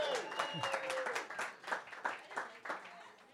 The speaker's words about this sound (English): Big round of applause